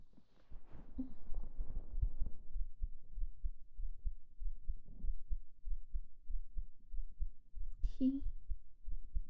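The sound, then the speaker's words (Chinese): A muffled heartbeat thumps steadily, as if heard with an ear pressed to a chest, its soft low beats repeating evenly throughout. “这是我为你而存在的心跳听清楚了吗？”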